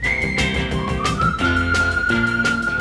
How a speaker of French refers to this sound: Quand un garçon dans la rue rencontre un de ses copains, on lui siffle un petit air qu'il connaît plus ou moins bien.